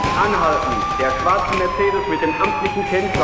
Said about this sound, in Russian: Орут сирены, за нами едут полицаи.